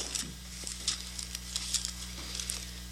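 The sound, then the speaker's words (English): Pages of Bibles being turned as listeners look up Psalm 101: a soft, papery rustling made of several quick crackly swishes scattered across a few seconds, faint over a steady low hum, with no one speaking. “I hear some pages turning.”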